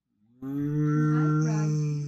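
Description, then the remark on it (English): A single loud, drawn-out cow moo starts abruptly after a brief silence and holds steady, deep and droning, with no one talking. “I'm just going back there, and I am going to come out as a cow.”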